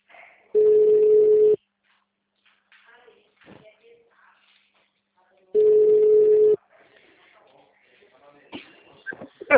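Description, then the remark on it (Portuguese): A telephone line tone from a call that isn't connecting: two steady, mid-pitched one-second beeps about four seconds apart, with faint scattered noises in between and a few clicks at the end. “Nossa, o telefone dele não tá chamando.”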